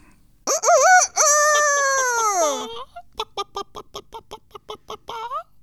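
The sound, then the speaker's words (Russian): A rooster lets out one long, loud crow, followed by a hen clucking in a quick, uneven series of short clucks. No voices are present. “Жили-были петушок и курочка.”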